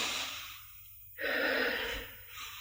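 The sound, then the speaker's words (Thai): Someone breathes heavily and deliberately, controlling the breath in a meditation demonstration: a long airy breath, a brief pause, then a louder, harsher forced breath that slowly tapers off. “เนี่ยหายใจไม่กี่ทีก็เหนื่อยแล้วหายใจมาตั้งแต่เกิดไม่เหนื่อยนะกำหนดลมหายใจทีเดียวเหนื่อยเพราะว่าแทรกแซงลมหายใจแทรกแซงการหายใจ”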